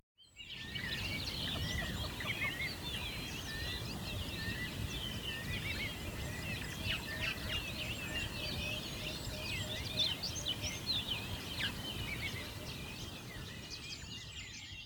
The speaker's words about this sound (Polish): No ale zanim zaczniemy, czas na dżingiel, czyli 15 sekund relaksującego śpiewu ptaszków.